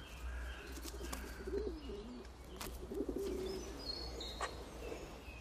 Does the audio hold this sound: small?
no